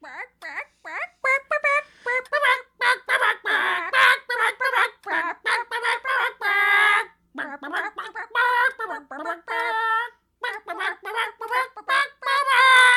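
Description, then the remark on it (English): Chickens cluck and squawk in quick, busy bursts as they rush over at speed, growing territorial, fairly loud, a steady jumble of calls that barely pauses for the whole stretch. “I'm not sure the chickens agree, Mum. They're coming over at some considerable speed.”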